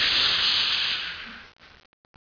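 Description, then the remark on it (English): A loud, steady hiss of a hot Teflon skillet sizzling under cold tap water running at a sink, the water cooling the pan, fading over about a second and a half, then a few brief crackles and spits before falling silent. “It sizzles. Why? Because the pan was hot, and the water is cooling it off.”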